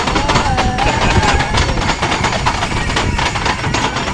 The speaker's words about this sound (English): Hello, this is the Enthalope, and we're starting up right now. And we're on the Gulliver's World roller coaster. Yes, and it's called the Enthalope. I think so, anyway. We're on the third seat. We're going up. Up.